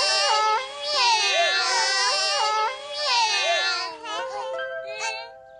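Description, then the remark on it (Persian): Three six-day-old kittens mew in overlapping, high-pitched cries with wavering pitch, going almost without pause for a few seconds, ending in thinner, shorter squeaks. “وای خدای من، نگاهشون کن، سه تا بچه گربه اینجاست. چقدر ناز و خوشگل، چقدر کوچولو.”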